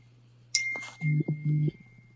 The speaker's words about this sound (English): Yeah, somebody must agree with me because you're getting blown up on your phone. Apparently, yeah.